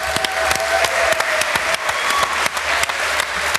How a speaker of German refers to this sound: Einen Applaus.